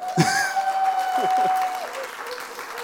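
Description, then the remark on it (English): An audience applauds as a guest is invited onto a sofa, in a steady, dense patter of many hands that fades slightly toward the end, with a thin sustained tone and a few brief vocal sounds over it. “Everyone clap.”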